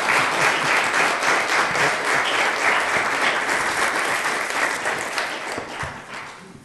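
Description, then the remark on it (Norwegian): A crowd at a council meeting claps steadily for several seconds in recognition of a 7.2 million surplus, a dense wash of overlapping handclaps that stays loud before gradually thinning and fading toward the end. No one speaks over it. “Det får jeg på vegne av deg og alle som har vært med på det, så fortjener du en blomst. Oi. Og en applaus.”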